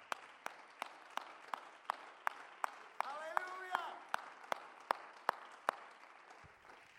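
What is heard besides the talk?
audience clapping hands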